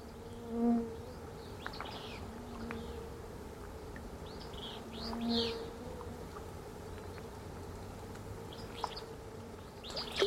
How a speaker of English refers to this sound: It's late afternoon at a remote mountain lake. Songbirds chorus in the distance. Insects are swarming near the surface of the water, and the trout rise up to feed on them.